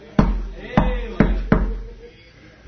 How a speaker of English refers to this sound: Then he knocked on the door.